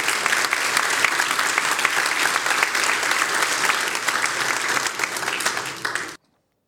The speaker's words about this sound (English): So let's thank the stars of the stellar Christmas, the kids for leading us in our great time together this morning. Audience, can you give them a round of applause?